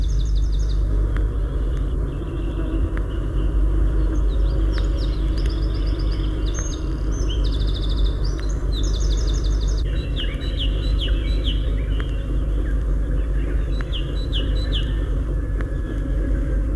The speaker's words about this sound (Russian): Это, сидя на сухом варежнике, поет крапивник. В паузах птичка то и дело кланяется и высоко вздергивает свой короткий хвостик.